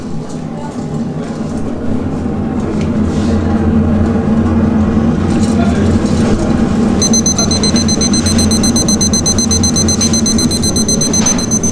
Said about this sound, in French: C'est quoi cette alarme là? Là, c'est l'alarme, c'est en fait pour nous rappeler qu'il faut intervenir sur la chauffe. Et là, en l'occurrence, je vais arrêter le brûleur. C'est juste un rappel sonore, simplement.